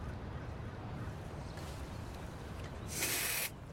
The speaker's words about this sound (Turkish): Koltuk altına deodorant sıktı.